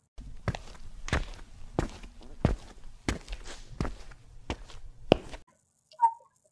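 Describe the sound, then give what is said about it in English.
Heavy footsteps of someone walking toward an attic thud in a steady, even rhythm, about ten firm steps over a low background rumble, then stop, followed by a brief faint tonal blip. “Right now, I'm walking towards the attic.”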